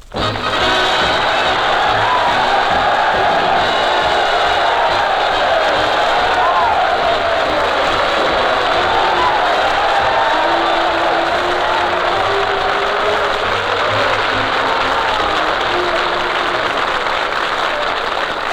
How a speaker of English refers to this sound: Thank you. That's 98 on the applause meter.